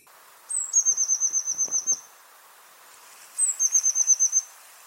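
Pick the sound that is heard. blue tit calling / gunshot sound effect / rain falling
blue tit calling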